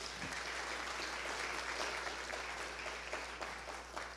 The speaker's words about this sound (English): I am so privileged to be head of this team. So please, another round of applause.